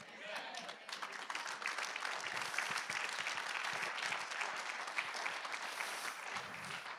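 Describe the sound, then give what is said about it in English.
A church audience claps steadily for several seconds, a dense, even wash of many hands that holds at a constant loudness without breaks. “I'm glad you were clapping, because now we're going to take the preaching and we're going to put it to action.”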